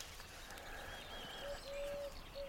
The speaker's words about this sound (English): But I've got wood pigeons behind me and a riot of skylarks in front of me. I don't know, what is the noun of assemblage for skylarks? A joy? An exaltation?